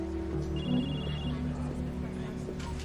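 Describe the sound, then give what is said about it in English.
A phone rings in an office with a brief, high electronic tone lasting under a second, over a steady low hum that continues throughout. “Mona answers her phone in her office.”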